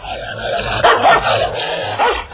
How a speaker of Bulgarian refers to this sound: Лай, лай. Не ми е за първи път да ме лая куче.